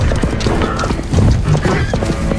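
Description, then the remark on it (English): Many hooves pound the ground in a dense, rapid drumming as a pack of horses gallops along a path through undergrowth, making the ground tremble, with a horse whinnying amid the loud, rumbling stampede. “A pack of horses gallops toward them.”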